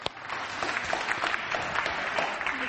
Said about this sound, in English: Thank you very much. Can we give everyone a clap?